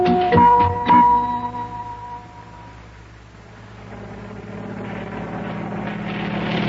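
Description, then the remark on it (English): A helicopter marked U.S. Mail on its side flies over the ocean toward a boat, bringing mail. It drones steadily with a low rotor rumble, with a couple of sharp tonal bursts near the start, before the engine noise swells and fills the rest. “we're all aboard the April Blossom looking at the helicopter”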